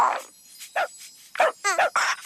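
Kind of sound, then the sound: animal, dog vocalizing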